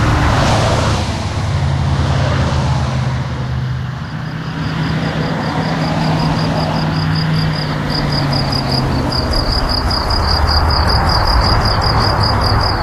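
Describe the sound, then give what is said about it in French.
A heavy truck's engine rumbles loudly, droning throughout, while crickets chirp in a steady pulsing rhythm that grows clearer toward the end, at the home of Fernand, a mountain guide. No one speaks. “Donc ça, c'est chez Fernand, côté Grillon. Et ça, c'est chez Fernand, côté camion.”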